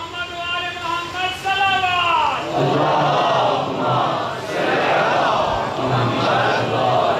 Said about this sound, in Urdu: ابھی جب بھائی نے نعرہ لگایا تو مجھے سمجھ آ گئی کہ یہ وہی نعرہ ہے کہ ایک بات سمجھ میں آ رہی ہے تو نعرہ لگانا چاہیے.